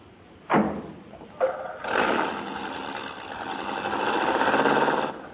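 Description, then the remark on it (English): Two sharp car-door thumps, then Dr. Christian's car engine starts and runs with a steady, rough hum that builds slightly in loudness before cutting off. No one speaks. “Oh, well, get in the car and I'll drop you.”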